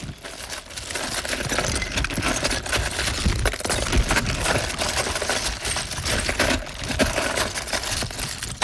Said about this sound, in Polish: Klocki? Brawo! Bardzo dobra odpowiedź, to były klocki.